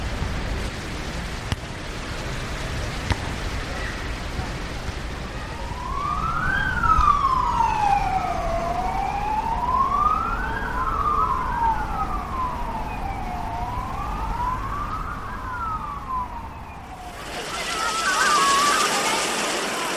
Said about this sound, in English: here's 60 seconds of sounds from the English seaside resort of Brighton, Paris's artificial beaches and the Belgian city of Liège, where an ambulance can be heard taking away someone who had fainted from heat exhaustion.